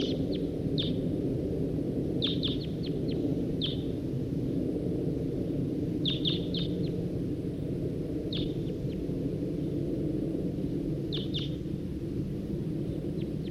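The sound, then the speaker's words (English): A wild male bird sings in short bursts of high, bright chirps, clustered in quick groups every few seconds, over a constant heavy low rumble of background noise. “That male who was singing, he's perched back up there in that tree.”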